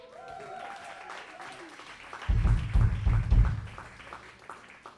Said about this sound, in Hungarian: úgyhogy nagy-nagy tapsot neki.